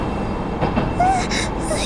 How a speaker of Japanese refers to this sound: 電車がすれ違ってく。